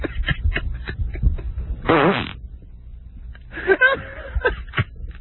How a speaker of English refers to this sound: I can't believe that I'm being offended by someone else's fart. Oh, it's just a huge noise. It's huge.